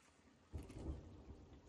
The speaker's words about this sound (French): Voilà, c'est encore le bateau.